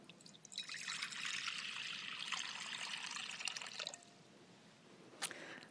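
Baptismal water poured by a pastor over a child pours steadily for several seconds in a bright trickling splash, then stops, leaving quiet with a few faint drips and one brief splash near the end.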